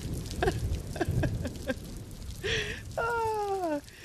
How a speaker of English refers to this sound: Is that fire or is that rain? Oh, there's the thunder.